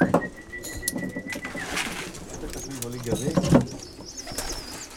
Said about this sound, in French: On a la passion des pigeons avec ma fille